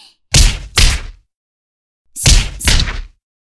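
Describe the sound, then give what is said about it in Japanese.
Four sharp, loud jab punches thrown by a girl land on a face in two quick pairs, a brief silence between the pairs, each a meaty thwack with no talking. “しばらくはジャブで可愛がってあげます。”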